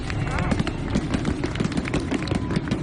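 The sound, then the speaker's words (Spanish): A rapid, unbroken barrage of sharp firecracker bangs from a mascletà in the Puerta de Alicante area of Florida Sur, Alicante, at one of the first official acts of the new Bellea del Foc and her maids of honour. The bangs are loud and dense, piling on one another in a fast, irregular rhythm with a low rumble underneath. “Y así suena el primer contacto con la pólvora de las nuevas representantes del fuego.”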